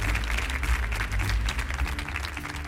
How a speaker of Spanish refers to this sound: ¡Otro fuerte aplauso